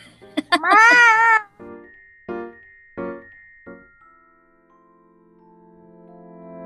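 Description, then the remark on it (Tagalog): A person loudly imitates a cat with one long, wavering meow, then four short growly bursts at an even pace, followed by quiet background tones. “Meow. Rawr, rawr, rawr, rawr, rawr.”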